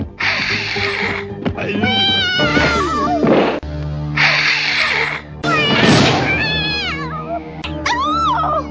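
A cat meows and caterwauls loudly, a string of drawn-out, wavering yowls broken by harsh, raspy bursts, continuing almost without pause.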